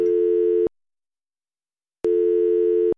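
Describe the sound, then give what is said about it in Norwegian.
A telephone ringback tone, heard while calling a petrol station, sounds twice, each steady electronic buzz lasting under a second with a long silent gap between, clear as if heard through a phone line. “Vi ringte derfor bensinstasjonen for å høre.”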